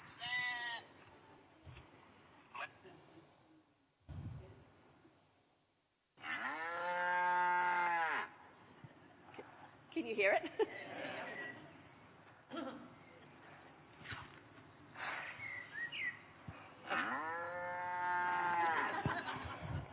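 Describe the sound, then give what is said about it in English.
Oxen lowing loudly in long, drawn-out moos, several calls rising and falling in pitch, with sheep bleats and a steady chirping of crickets underneath. “Is that sheep? Is that oxen that I can hear?”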